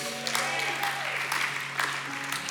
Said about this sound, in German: Herzlich willkommen, ein Applaus für Heidelberg.